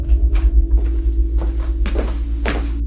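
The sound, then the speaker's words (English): A door is fumbled with and opened, with a series of scattered wooden knocks and creaks over a steady low rumble. No one speaks. “We just have to find the door.”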